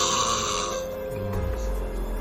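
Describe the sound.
A voice imitates people snoring, one long rough, rattling breath with a low buzzing drone that shifts lower midway, loud, with no talking around it.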